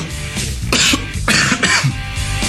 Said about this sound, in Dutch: Heeft u iets tegen hoesten?